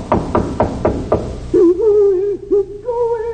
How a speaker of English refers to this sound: There's a faint light under that door. If the old men are held prisoner, this door will be locked. I'll try it. It's unlocked. Better knock before I go in.